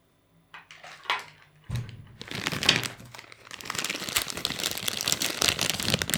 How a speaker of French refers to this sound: Un sac en plastique.